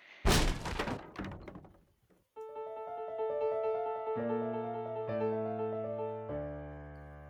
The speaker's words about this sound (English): Come on, Watson! Help me break in the door!